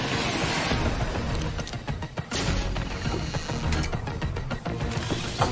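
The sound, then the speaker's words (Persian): A car pulls up to pick someone up with a loud, continuous mechanical rumble and clatter, scattered sharp knocks and clanks punctuating the steady noise throughout, without any talking. “نه ممنون نه خدا، ماشینم اومد دنبالم.”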